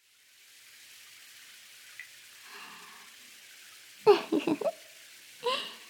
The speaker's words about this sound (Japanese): じゃあ、そろそろシャワーで、あわあわ流しちゃいましょうね。